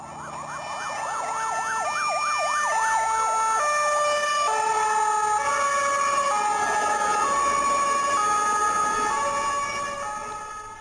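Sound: ambulance siren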